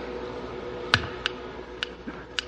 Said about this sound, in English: What's that ticking? Time, sir. Time. An integral characteristic of any device whose operation or function is dependent upon continuous and artificially induced nutrition. What? It became a factor as soon as you turned that switch.